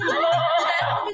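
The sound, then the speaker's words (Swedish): A horse whinnies loudly, one shrill, quavering neigh lasting about a second before cutting off, heard on its own without any talking. “Tryck på hästen.”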